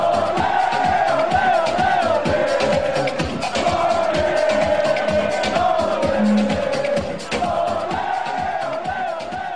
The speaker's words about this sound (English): But the one that I prefer is one that I learned as a kid, which I'm sure soccer fans all over are familiar with, the old ole, ole, ole, ole. Because I remember being a kid and going to the stadium and singing that myself. So that's my favorite.